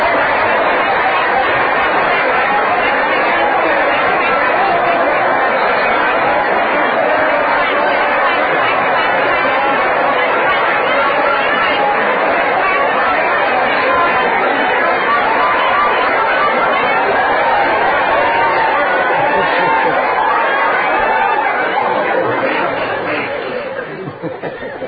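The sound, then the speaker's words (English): A large crowd of people loudly imitates the quacking of Vrindavan ducks, a dense, continuous jumble of overlapping nasal calls mixed with laughter, sustained for about twenty seconds before trailing off. “and then they would imitate the cracking of the Vrindavan ducks. Everyone. Louder, please.”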